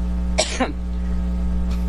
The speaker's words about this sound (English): Look at Hillary Clinton. Look at that cough. Karma. More like a sneezing fit with yeah, you.